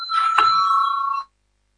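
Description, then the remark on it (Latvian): An electric bell in a parliament, rung before a vote on a proposal, rings continuously for just over a second, a bright, steady buzzing tone with a sharp start and abrupt cutoff, followed by silence. “Lūdzu zvanu.”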